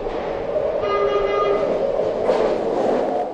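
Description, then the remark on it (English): A BART commuter train rolls along the rails with a steady rumble, and a thin metallic whine rises briefly partway through before fading back into the roar. “BART, an obvious candidate for early warning, could use the system to slow down trains.”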